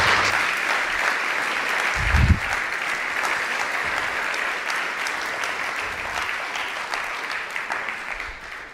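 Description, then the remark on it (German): Sustained audience applause fills the whole stretch, a steady dense wash of many hands clapping at even volume, with no one speaking over it. “Dankeschön dir und einen dicken Applaus für dich.”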